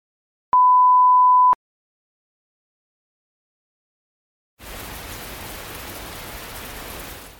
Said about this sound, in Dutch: Ik sta hier buiten in de regen voor het gebouw van het Nederlandse parlement.